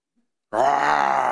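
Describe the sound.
After half a second of silence, a voice lets out a loud, sustained, growling roar imitation that holds steady at a low, rough pitch until the end.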